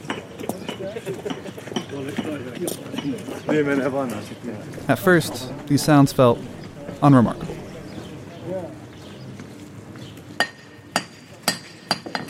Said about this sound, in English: It's a recording of people making repairs to a cobblestone street in Estonia.